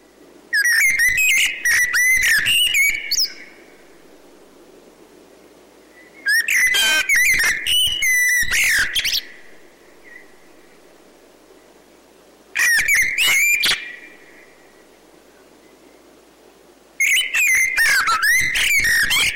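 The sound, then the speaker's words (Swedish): A Eurasian blackbird sings loud, fluting phrases that end in high twittering, delivered in four separate bursts with quiet pauses between them. No one speaks. “Men ljudet av koltrasten som sitter högt uppe på en tv-antenn eller i en trädtopp, det längtar vi efter.”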